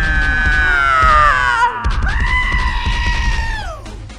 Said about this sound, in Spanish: El recluta de antes vuelve a gritar como un loco y se le añaden otros dos.